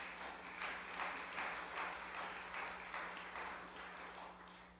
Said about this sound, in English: Come on, somebody say amen. Come on, give him a good clap offering, would you?